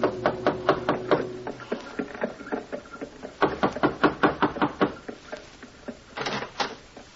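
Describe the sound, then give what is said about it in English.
Dr. Webster knocks on a door in a more or less fashionable part of town, in several quick, rhythmic bursts of sharp raps, pausing briefly between each round. The knocks are firm and fairly loud, with no voices. “Gave the driver his fare, received a wink in return, and knocked on a door.”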